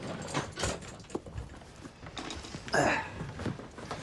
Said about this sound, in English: pulls over an old office chair to face him.